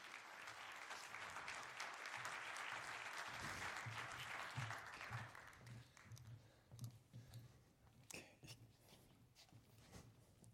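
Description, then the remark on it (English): An audience at a 38C3 conference talk claps steadily for about five seconds to welcome the speakers, a dense wash of applause that thins out into scattered individual claps and fades away. “Please welcome them with a hand of applause.”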